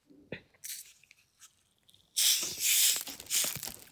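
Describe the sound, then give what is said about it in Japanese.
A few crinkly plastic clicks and a cap twisting, then a loud, sustained fizzing hiss as a 500 ml plastic bottle of strongly carbonated drink is opened and gas rushes out, pulsing slightly over two seconds. “ちょっともう開けちゃいますね、炭酸。”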